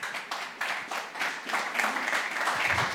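A crowd applauds steadily, many hands clapping in a dense, crackling wash that stays fairly even in loudness throughout, with no one speaking over it.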